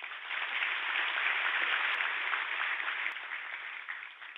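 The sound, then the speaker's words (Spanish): An audience applauds two representatives of transport companies who received a FENALCO award, in a dense, steady wash of clapping that holds an even loudness for several seconds and eases off slightly near the end, with no voices over it. “Los aplaudimos de corazón.”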